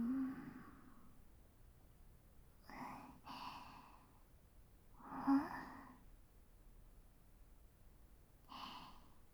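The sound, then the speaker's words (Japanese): Several soft, breathy yawns from the commander, drawn-out airy exhalations spaced apart with quiet pauses in between and no talking. “指揮官もあくびです。”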